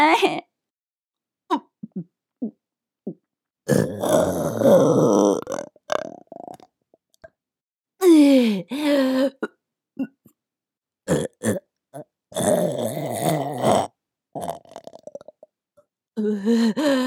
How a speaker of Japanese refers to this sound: ゲップもくせえし。